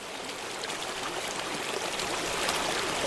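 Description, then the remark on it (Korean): Water trickles steadily through the crevices between rocks, a continuous soft burbling and splashing with a bright, hissy texture, without any voices. “잠결에도 바위 틈을 흐르는 물소리가 졸졸하고 귀에 언제까지나 어렴풋이 들려왔다.”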